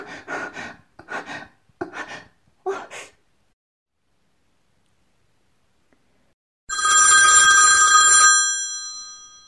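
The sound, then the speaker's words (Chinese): A loud, bright telephone bell rings once in a sustained burst after a pause, preceded by several short, breathy gasps and pants. “喂？是你呀？怎么有空给我打电话了呢？”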